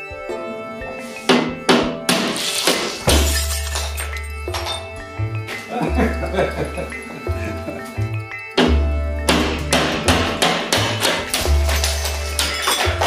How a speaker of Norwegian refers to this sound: De knuser til sammen 3 verandadører og 2 glassruter, og bryddflater og glassbrut studeres og måles.